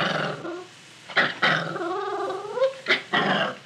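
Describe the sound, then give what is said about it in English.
A female puppy growls in rough, rumbling bursts as a new collar and leash are put on her, with a few sharper yelps and whiny rises in between, loud and continuous for several seconds. “Apparently, walking beside her lord and master didn't mean a thing to the dog.”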